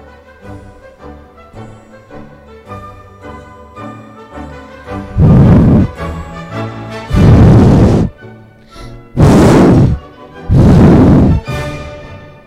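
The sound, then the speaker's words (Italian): A wolf huffs and blows four times at a brick house in long, loud, breathy gusts, roughly evenly spaced, each rising over a steady musical backing that plays alone at first. “Soffiò e risoffiò e risoffiò e risoffiò, ma la casa di mattoni non crollava.”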